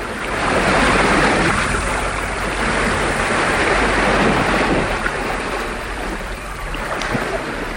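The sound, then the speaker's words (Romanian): Steady, broad rush of ocean water and surf, loud and continuous with some wind noise, as three caravels under full sail head out to the ocean with a favorable wind on the morning of 3 August 1492. No voices. “Și astfel, în dimineața zilei de vineri, 3 august 1492, cele trei caravele cu toate pânzele ridicate se îndreaptă spre ocean, purtate de un vânt prielnic.”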